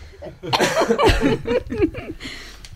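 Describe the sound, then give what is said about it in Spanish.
A woman chairing a session gives a few loud coughs in quick succession, mixed with breathy, laugh-like vocal bursts, then trailing off into softer sounds. “Me he ido muy bien porque necesitaba toser desde hace 10 minutos y me estaba moviendo de morir.”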